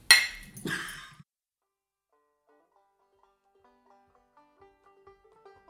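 Glasses clink together twice in quick succession in a Fourth of July toast, loud, with a brief bright ring; afterward a soft, faint melody of gentle notes plays with no talking.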